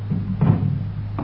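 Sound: door being closed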